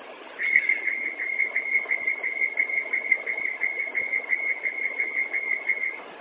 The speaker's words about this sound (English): Yeah, I got a check engine light and warning buzzer going off like every 2 to 3 minutes. Yep, definitely heard that.